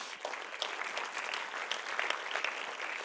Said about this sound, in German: Ein paar, herzlich willkommen. Ich glaube, gebt doch mal einen Applaus für die Leute.